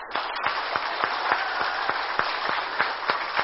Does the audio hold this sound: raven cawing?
no